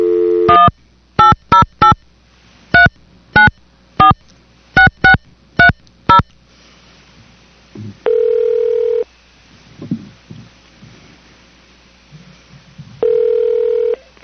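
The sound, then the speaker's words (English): A rapid series of about ten touch-tone keypad beeps dials a number as a radio station, KAPULP 104.7 FM, places a call for a telephone interview, then a longer ringback tone sounds twice with faint line noise in between. “And I'm going to place a phone call right now and see if I can get him on the phone.”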